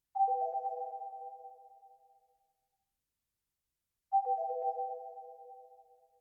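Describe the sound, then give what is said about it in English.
A shimmering synth patch plays twice, each hit stacking a few overtones in quick succession and then fading slowly into a washy, chorused reverb tail, with silence between the two. “though the next sound is actually called Batcave Overtone Shift. It is from the Zebra HZ by UHE.”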